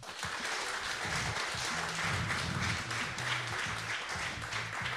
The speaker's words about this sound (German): Und Radio Siegen Reporter, Moderatoren sitzen hier in dieser Runde. Herzlichen Applaus nochmal für alle, die jetzt hier vorne schon auf dem Podium sitzen.